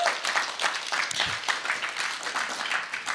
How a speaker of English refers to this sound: But April 14th, first Sunday, April 14th, I'm going to tell you, it is the new start of Stockholm Community Church. Like, seriously, you need to applaud that.